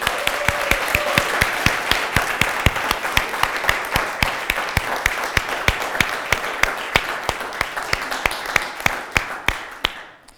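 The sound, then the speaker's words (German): An audience at a morning church gathering applauds to welcome those listening by CD or over the internet, steadily for about ten seconds, dense overlapping hand claps at a brisk, even rhythm, loud throughout before tapering off abruptly at the end. “Der Applaus geht an all die, die über CD oder über das Internet mithören heute Morgen.”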